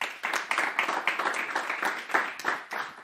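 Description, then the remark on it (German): An audience applauds to welcome a guest, many hands clapping in a dense, steady patter that stays fairly even in loudness throughout, with no voices on top. “Herzlich willkommen und großen Applaus.”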